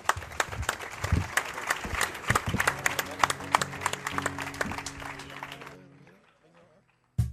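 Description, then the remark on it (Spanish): A burst of studio audience applause, dense rapid clapping that stays loud for about five seconds, then thins out and fades, with a low hum underneath and a brief sound cutting in at the end. “Cançó de vergüenza ajena, un aplaudiment per a ells.”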